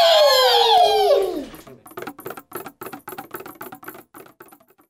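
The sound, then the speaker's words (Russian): A loud descending whistle slides down, then gives way to a rapid, uneven clatter of wooden pieces tumbling and knocking together as a small wooden house collapses after a wolf blows on it, fading toward the end. “Деревянный домик развалился.”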